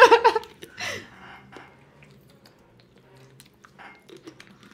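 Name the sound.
person drinking water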